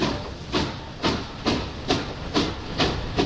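vehicle, train building in intensity

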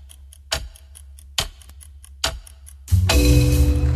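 chess clock ticking

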